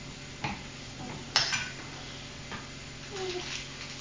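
A few sharp clanks of pots and pans spaced out over a few seconds, one louder than the rest, while cooking and frying food in a large pan, over a steady low kitchen hum and faint sizzling, with brief murmurs of voices in the background.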